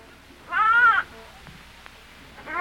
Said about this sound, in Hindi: जब भेड़ ने गडरिये को देखा तो बड़ी प्रसन्न हुई। उसने एक बार फिर आवाज दी।